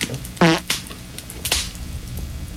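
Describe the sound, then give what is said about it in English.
A fireplace sound effect: a short, buzzy rasping burst followed by a few scattered sharp pops and crackles over a steady low hiss, with no voices. “What a stupid sound effect for a fireplace.”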